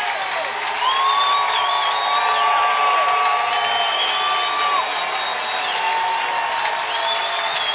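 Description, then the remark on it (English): A big stadium crowd at a football game roars and cheers steadily for several seconds, urged to stand and cheer with the Vikings leading 36-8 in the third quarter; a dense wash of voices with occasional whistles and shouts rising above it, loud and sustained throughout. “I've heard the crowd louder,”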